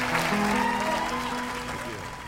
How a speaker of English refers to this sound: Whoops, they're still clapping. Pause it. They're still. See, it won't pause. Won't do diddly squat. Won't let me change it. A lot of clapping going on.